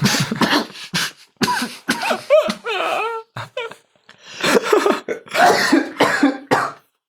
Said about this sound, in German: So klingt es, wenn sich ein Zauberer an seinem Bier verschluckt, aber ich habe nicht einen Tropfen verschüttet dabei.